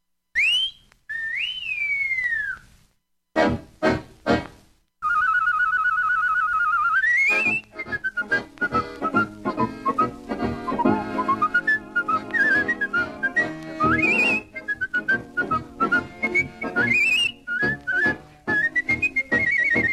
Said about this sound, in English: The whistle we girls are waiting for.